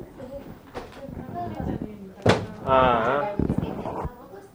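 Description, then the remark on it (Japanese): A door slams shut once, a sharp, loud bang partway through, while people talk before and after it. “ああ、うん、ご丁寧にドアストッパーまでつけようとしてるよ。閉じこまっちゃったんだ ね。”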